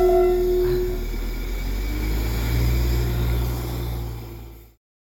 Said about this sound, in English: Oh, well, our little train has disappeared into the distance and it has just rained.